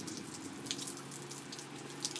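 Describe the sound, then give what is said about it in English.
A steady, quiet trickle of running water with occasional brighter splashes, like rain runoff pouring in a city, over a low constant hum and no voices. “Oh, a little pile of water.”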